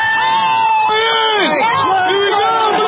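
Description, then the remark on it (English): A dense outdoor crowd of about 2 million fans lining Market Street in San Francisco roars continuously at the victory parade for the World Series champion Giants in chilly, rainy weather, with many overlapping cheers, whoops and shouts blending into a loud, steady wall of festive noise. “Chilly, rainy, but that didn't stop an estimated crowd of about 2 million to line up and down Market Street for the festivities.”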